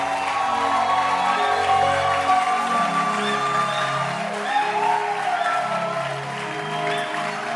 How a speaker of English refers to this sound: And I want you to clap your hands and let's appreciate the first timers.